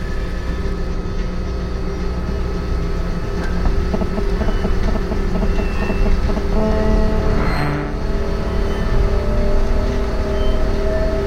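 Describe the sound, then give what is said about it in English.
A steady, loud rumble of a monorail train running in Las Vegas, with a constant low hum, mechanical whirring and a faint rhythmic clatter partway through, with no voices. “You're now part of the millions of people every year who choose the monorail over street traffic.”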